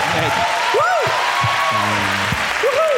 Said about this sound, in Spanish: Sí, ¿cuánta gente conoce Ciudad Real? ¿Aplaudir?